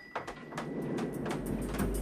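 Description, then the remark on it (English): Elevator doors slide shut on the 15th floor with a quick series of rattling mechanical clicks over a steady low hum and rumble that builds toward the end, fairly quiet, with no voices. “Storm's doors close just in time.”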